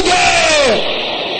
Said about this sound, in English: Can I hear everybody here shouting loud and clear? By the power in the blood of Jesus. Can I hear you roaring like thunder?